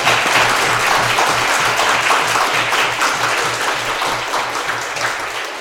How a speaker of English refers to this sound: let's hear a warm round of applause for Virginia and the work she's doing